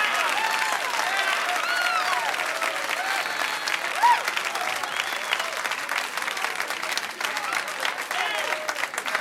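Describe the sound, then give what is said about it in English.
A large audience applauds steadily and loudly for several seconds, the dense clapping mixed with scattered cheers and a few whistles, holding at an even level throughout. “What a crowd!”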